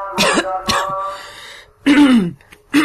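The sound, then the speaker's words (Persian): A person coughs in a few sharp, rasping bursts with a throat-clearing quality, separated by brief pauses, in the middle of an audio recording so the cough can be cut out in editing. No speech. “خب اینجوری ها اینا، من وسطش یه سرفه میکنم که بخوایم اون سرفه رو کات کنیم با هم.”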